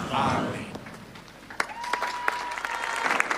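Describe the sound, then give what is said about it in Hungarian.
A crowd of pilgrims applauds to greet and thank the Holy Father for his teaching, a dense, steady patter of many clapping hands, with a few sharper claps standing out and a faint sustained tone running through the middle. “A zarándokok újra tapssal köszöntik, és köszönik meg a Szentatya tanítását.”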